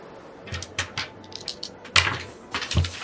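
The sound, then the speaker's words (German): Dice are rolled for a perception check, rattling and tumbling across a hard surface in a quick run of light clacks and taps that comes in two or three bursts before settling; the roll comes up 100, a critical failure. No one speaks. “würfel mal auf Wahrnehmung.”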